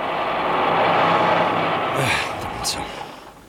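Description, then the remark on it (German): A heavy truck rumbles, its engine noise gradually easing as it slows, followed by a brief hiss and squeal as it pulls up and stops in front of Professor Yarborough's house. “Einige Minuten darauf kamen Peter und Patrick mit dem Lastwagen. Patrick hielt vor dem Haus von Professor Yarborough.”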